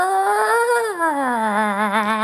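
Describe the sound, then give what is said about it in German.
A person's voice imitates the eerie, ghostly yowl cats make at night: one long, drawn-out wail that rises slightly, then slides lower and wavers with a trembling vibrato for about two seconds. “ihr wisst, was Katzen nachts für gruselige Geistergeräusche machen, ne?”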